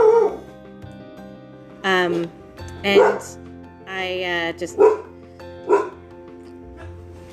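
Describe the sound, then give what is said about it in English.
A female dog barks in a string of sharp, high, loud woofs, about five or six spaced irregularly, during an online video meeting, while a person talks briefly underneath. “Also, dog, sorry.”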